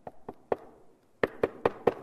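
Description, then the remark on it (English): Three light, spaced knocks on a door, a brief pause, then six louder, quicker raps in a steady rhythm, each a hollow, woody thud with no voices. “And pretty soon he starts banging and banging and banging.”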